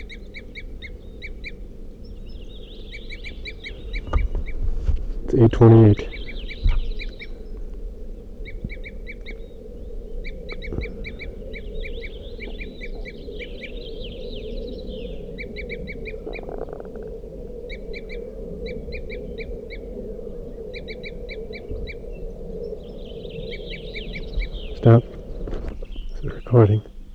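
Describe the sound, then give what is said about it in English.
Calls of two crossbills at the edge of a clearing: short, sharp, high-pitched tooping notes repeated in quick clusters through the whole recording over a low steady rumble, with a brief spoken time check of about 8:35 near the start. “So recording, I hear a crossbill tooping here, right on the edge of the clearing, and I can see the bird silhouetted.”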